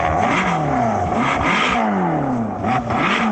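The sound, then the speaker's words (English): The V8 engine of a bright red Ferrari California revs loudly, its pitch sweeping up and down through several throttle blips with a rough, growling exhaust note and no voices. “It is a bright red Ferrari California. So just to give you an idea, just listen to this V8.”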